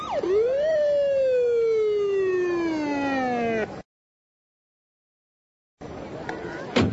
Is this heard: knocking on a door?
no